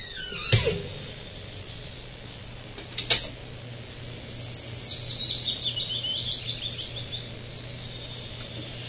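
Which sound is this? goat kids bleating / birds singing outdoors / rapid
birds singing outdoors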